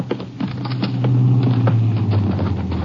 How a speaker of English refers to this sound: And there's a car coming now